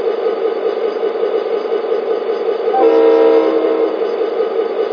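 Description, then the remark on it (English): A freight train rumbles steadily along the rails, a constant mid-range roar throughout, with a brief horn-like tonal blast sounding for about a second midway. No one speaks. “I'm stopping my train.”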